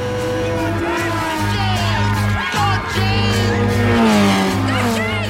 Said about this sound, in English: The cars tear by with only a fragile wooden fence between them and the fans. Hunt's still in the lead, but Nicky Lauda is right on his tail.